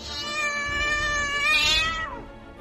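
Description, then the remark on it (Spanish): A female cat arches its back and lets out one loud, drawn-out yowl, harsh and piercing, holding steady for about two seconds before bending downward and breaking off, then runs away. “La gata te mantiene la mirada sin parpadear. Después arquea el lomo, lanza un sonido agudo y escapa.”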